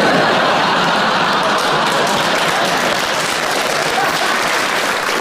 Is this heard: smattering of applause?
yes